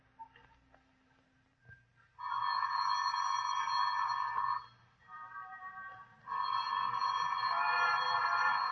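A telephone rings in two long, steady bursts, a bright buzzing tone with a quieter stretch between them. Before the first ring there are only a few faint knocks and a low hum.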